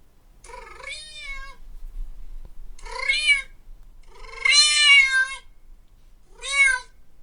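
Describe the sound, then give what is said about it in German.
A cat meows four times with short pauses between, each call a drawn-out, wavering cry that rises and falls in pitch; the third is the longest and loudest. No one speaks. The meows are from a TikTok video being played, on a split screen that shows the cat on one half. “auf der rechten Seite sieht man halt den Typ, der diese komischen Geräusche macht. Und auf der anderen Hälfte vom Monitor sieht man seine Katze”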